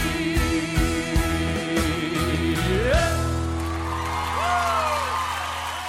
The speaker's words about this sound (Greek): Και δικαιολογημένα τα χειροκροτήματα από τα πολύ αγαπημένα τραγούδια